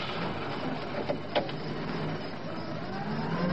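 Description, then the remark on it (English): A car engine hums steadily as the vehicle turns and drives off, a broad, even rumble with a couple of short clicks partway through and no voices. “He's turning around now, sir. Driving away.”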